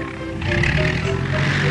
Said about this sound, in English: notices the seaplane gliding low toward the water. That must be his plane now.